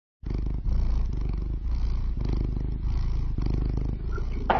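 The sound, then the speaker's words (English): Lizzie, a very round domestic cat, purrs loudly, a steady low rumble that swells and dips with each breath for a few seconds, with no talking. “Lizzie is a very round cat, and she's the most loving, and she purrs like that.”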